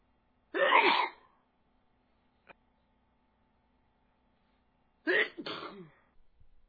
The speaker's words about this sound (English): Making me sneeze.